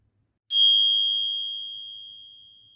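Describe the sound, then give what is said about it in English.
A single meditation bell, rung to signal the start of a guided meditation, is struck once, sharp and clear, then rings out in a long pure tone that slowly fades over a couple of seconds in silence. “I will signal a bell before we start, and I will signal the bell as we end.”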